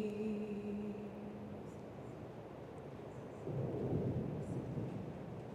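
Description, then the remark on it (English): Low, rolling thunder from a thunderstorm rumbles steadily over a rainy wash during a worship service, swelling louder for a second or two near the end. A faint sustained tone lingers at the start, then fades. “If you're watching the streaming, you probably can't hear the storm that has just set down on this place.”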